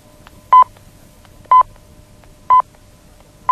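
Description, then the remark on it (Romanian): Radio time signal beeps marking 19:00: short, loud, mid-pitched pips sounding exactly once per second, four in a row, over a faint low hum with no talking. “La al cincilea semnal va fi ora 19.”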